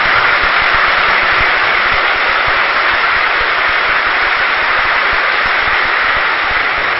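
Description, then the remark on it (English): An audience, invited to clap for the Shivratri service done across India, applauds in a dense, steady wash of clapping that holds at an even, loud level throughout, with no pauses and no voices. “And if you can hear the loud clap, everyone, and really it's very true this year in India, everywhere, in every village, they have been going and serving.”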